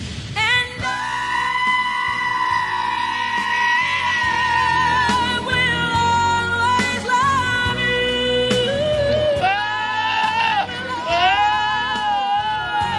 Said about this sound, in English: because he spent months and months after he stole the goat, basically training it and everything. We actually have an audio recording of it here for it. Here's the goat to ask the girl to the prom.